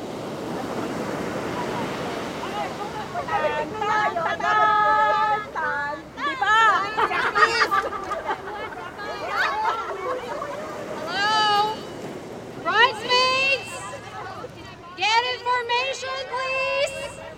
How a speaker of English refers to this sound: It's the big day, we're in Malibu on the beach, and things are not going as planned. The sun's gone and it's windy.